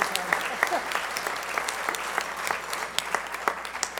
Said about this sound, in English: One, it's a fifth Sunday, so the adult volunteers have the day off, and our YOU teens lead, so if I can get a round of applause for our early arrivals.